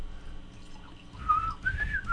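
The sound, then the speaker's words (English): Someone whistles the short, bouncy Jeopardy game-show thinking tune, a few clear rising notes starting about halfway through, moderately loud over a low background hum, with no talking. “I can't do the Jeopardy whistle myself.”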